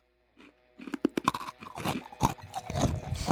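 crunchy food being chewed

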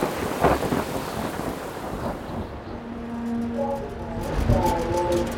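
thunderstorm with thunder

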